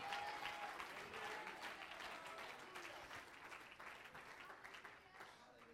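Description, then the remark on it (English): A crowd of people clapping their hands unto God during a sermon, a dense, continuous wash of applause that stays steady and fairly loud for the whole stretch, with faint voices mixed underneath. “Let's clap our hands unto him.”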